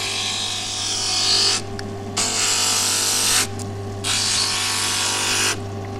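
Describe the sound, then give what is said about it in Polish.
A water-fed wet glass grinder hums steadily while the edges of long, narrow pieces of glass are ground against it in three long passes, each bringing a harsh, gritty high-pitched grinding that drops back to the motor's drone between strokes. “Szlifierka podaje wodę i szlifujemy.”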